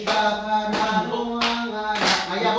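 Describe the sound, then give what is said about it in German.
Kiribati folk singing by a group with sustained, harmonically rich voices, accompanied by bursts of hand clapping along to the song that mark a loose beat beneath the melody, while some dance a little. “Manche lenken sich auch ab, indem sie zum Gesang der kiribatischen Folklore klatschen und ein wenig tanzen.”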